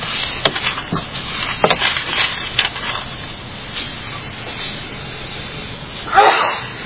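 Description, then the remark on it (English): A single sharp sneeze bursts out near the end, preceded by scattered soft rustles and breathy noises against a steady background hiss, with no one talking. “Bless you.”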